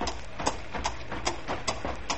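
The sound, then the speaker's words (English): A cow's hooves clip-clop in a steady, even rhythm, about two or three hollow knocks per second, moderately loud over a faint background hiss, with no one speaking. “Hey, whoa there, cow.”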